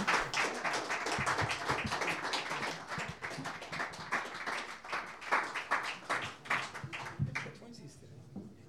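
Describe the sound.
A crowd applauds steadily for several seconds, dense overlapping claps at a fairly loud level, with murmured voices mixed in before the clapping thins out toward the end.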